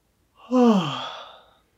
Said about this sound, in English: There's a decent chance that this is going to make you yawn. Or you can even try a fake yawn to trigger that response.